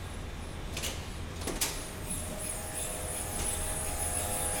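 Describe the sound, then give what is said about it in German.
Cryopumps cooling the quantum computer refrigerator in the quantum lab at ETH Zurich: a steady low mechanical drone with a thin high whine and hiss, broken early by a few brief sharp hissing bursts, with no one talking. “Die Kryopumpen machen ein ziemlich unverwechselbares Geräusch.”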